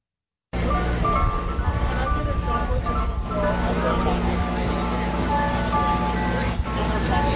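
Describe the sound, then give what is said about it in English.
An ice cream truck's tinny jingle plays steadily at the Wurtsboro Founders Day Street Fair on Sullivan Street, Wurtsboro, over busy outdoor noise, with indistinct crowd chatter mixed in, the melody continuous and fairly loud throughout. “There's nothing like that ice cream truck jingle to let you know that summer is here.”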